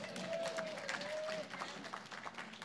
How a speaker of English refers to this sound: Big round of applause for Jesus.